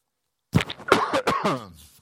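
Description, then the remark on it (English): A fairly loud cough breaks out after a brief silence, a rough cluster of raspy bursts with a throaty edge that trails off over about a second and a half. “See how I coughed?”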